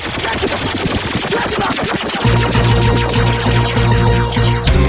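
A loud, rapid burst of machine-gun-style gunshot effects rattles for about two seconds, then a heavy bass-driven music track kicks in with more gunfire sounds layered over it.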